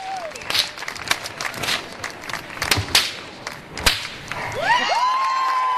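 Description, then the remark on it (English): Sharp cracks of a flaming whip, swung by a man to snap something off his head before a festival crowd, split the air amid scattered clapping and murmur, followed by rising whistles and cheers as the audience reacts loudly near the end. “A man in front of a crowd holding a whip on fire to snap something off of his head.”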